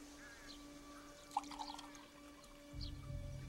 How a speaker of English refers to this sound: Harris lifts a big glass jug and pours lemonade into two glasses.